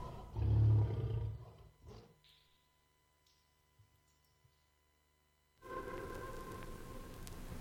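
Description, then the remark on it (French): A deep, rumbling big cat roar swells and fades in the first second or two, followed by a few sparse, faint water drips in near silence, then a steady wash of noise. “et on va réentendre ces bruits de fauves et de gouttes.”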